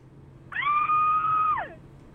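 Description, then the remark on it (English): A single scream from a radio call-in caller, thin and tinny over a phone line, holds one steady pitch for about a second before sliding down and cutting off over a low hum. “I like how it sounds exactly the same every time.”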